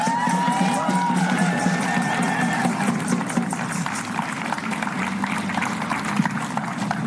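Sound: crowd applause and cheering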